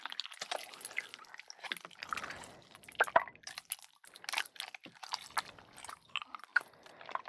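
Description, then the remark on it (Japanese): Wet, sticky squishing and quick light taps on slime, with irregular clicks and squelches popping throughout, fairly quiet and without any talking. “スライム遊び楽しいです。”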